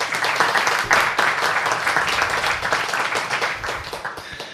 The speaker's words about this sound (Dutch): En ja, beste mensen, even een applaus voor deze helden van vandaag.